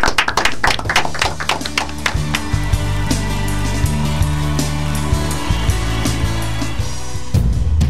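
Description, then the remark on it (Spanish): A burst of clapping, loudest in the opening seconds, goes on over a steady musical bed with low sustained tones. Nobody speaks. “Con un aplauso terminamos el programa.”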